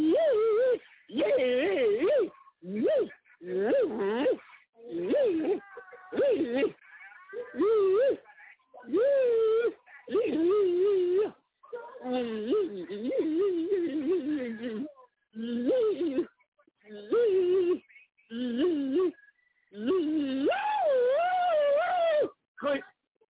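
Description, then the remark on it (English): A voice imitates animal calls through a tinny phone speaker: a series of wavering, whining howls in short bursts with brief silent gaps, fairly loud, continuing for about twenty seconds. “Man, they look like they're trying to do an animal call to your ass on his phone.”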